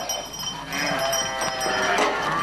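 Several sheep of a farm flock kept for grazing bleat over one another, their wavering calls rising and overlapping, with a steady outdoor background hiss and no talking.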